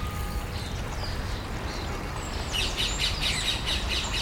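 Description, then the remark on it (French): Birds chirp and sing in a park over a steady low background rumble, with scattered calls at first and a denser burst of bright, repeated twittering toward the end. “Donc vous avez entendu là le son des cloches, les oiseaux, le ruissellement de l'eau.”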